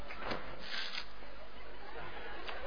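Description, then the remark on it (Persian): Crunching of puffed corn snacks being eaten, with a few louder crackling bites standing out over a steady rustle and faint murmuring in the background. “همین ورقه هایی که میدید فرصتی برای پفک خوردن منه.”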